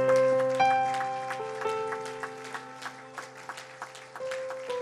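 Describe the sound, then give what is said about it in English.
An audience claps hands in praise unto the Lord on a Sunday, in a fairly steady rhythm, sharp claps repeating over sustained, held organ or keyboard chords. No one speaks. “Let's get one more hand clap of praise unto the Lord today.”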